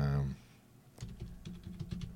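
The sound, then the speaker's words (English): Rapid typing on a computer keyboard, a quick run of clicky keystrokes, following a brief low hum and a short pause at the start. “Can you hear me typing? Hopefully, you guys can hear me typing.”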